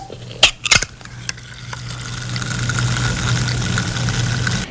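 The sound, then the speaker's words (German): A bottle cap cracks open with a few sharp snaps, then a steady fizzing hiss swells and carries on over a low, constant hum. “Das Zischen der Flasche.”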